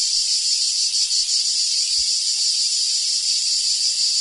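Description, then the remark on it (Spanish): A cicada chirps in a loud, steady, high-pitched buzzing drone that runs unbroken throughout, with no voices or other sounds alongside it. “El cant de la Chicharra, música y desfici en UPB Radio.”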